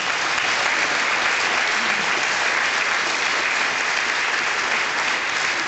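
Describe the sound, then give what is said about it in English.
A large audience at the Amex claps steadily to welcome the evening's panel, sustained dense applause that stays loud and even for several seconds, with no voices standing out above it. “I know you're going to give them a big round of applause, aren't you?”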